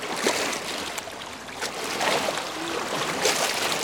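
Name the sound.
lake waves lapping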